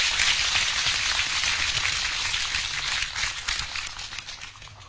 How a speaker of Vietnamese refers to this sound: Vì vậy, xin một tràng pháo tay để tán thán công đức.